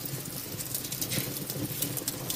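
Fresh bread crust crackles steadily, a dense stream of tiny, dry, high-pitched pops and ticks with no pauses. The crackling stays soft and even throughout, and no one speaks.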